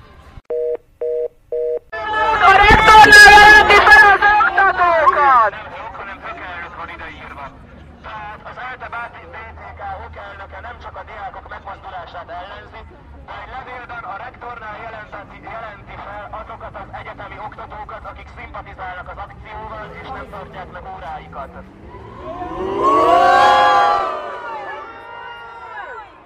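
A number 2 tram rolls past a large, noisy crowd and is about to stop: a few short electronic beeps, then a loud blaring horn and cheering, a steady crowd din, and another loud swell of horn and shouts near the end.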